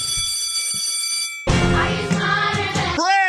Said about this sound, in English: Okay, ring the bell.